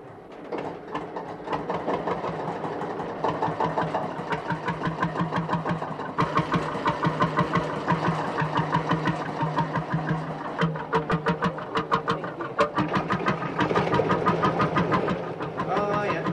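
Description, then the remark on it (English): A narrowboat's Bolinder semi-diesel engine runs steadily, its regular pulsing thumps repeating evenly throughout with no voices. “Canterbury Brothers of Bourneville, they were the first to have the motorboat, the Bollinger engine.”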